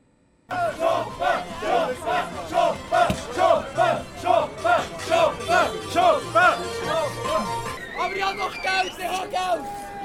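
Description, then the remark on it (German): A loud crowd protests the opening of the Mediamarkt store in the Markthalle in Bern, shouting and chanting in a steady, rhythmic pattern, many voices rising and falling together in repeated bursts, with a low rhythmic thumping underneath, as electronic scrap is thrown. “Unter lautem Protest und mit fliegendem Elektroschrott wurde gestern der Mediamarkt in der Berner Markthalle eröffnet.”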